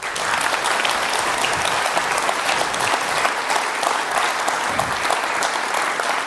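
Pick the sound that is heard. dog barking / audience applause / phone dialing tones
audience applause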